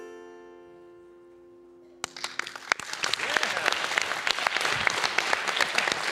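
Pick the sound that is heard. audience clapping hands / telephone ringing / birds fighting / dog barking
audience clapping hands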